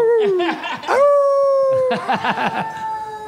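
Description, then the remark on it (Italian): A person imitates a wolf howl with long, sustained tonal wails that glide and hold steady, fairly loud, with a brief warbling break between two drawn-out howls. “E facci ancora sentire il. Lupo. Il lupo.”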